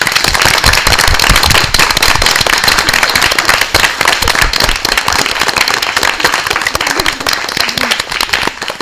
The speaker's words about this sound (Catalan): Hi havia molts aplaudiments entre notícia i notícia, s'anaven fent costat, una classe que fa molta pinya, i eren aplaudiments silenciosos, així que ara, com que som a la ràdio, jo crec que aquest aplaudiment ja és hora que se senti bé. Vinga!